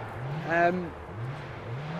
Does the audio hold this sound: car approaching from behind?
yes